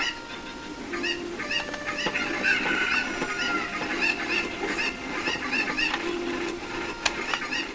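Chickens cluck steadily in a busy, overlapping stream of short, nasal calls, moderately loud, with no talking and a faint hum in the background.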